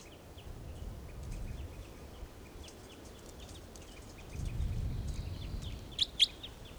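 Wild birds, among them a toucan nearby, call with faint, repeated high chirps over a low rumbling background, then two sharper, louder calls ring out near the end.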